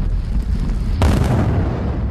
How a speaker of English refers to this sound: The process is indeed jolting, as you can hear from explosions like this one, especially if you live right by the mine site. Entire mountains are blown up to get to the valuable metals underneath.